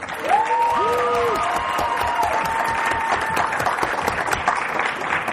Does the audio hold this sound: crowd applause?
yes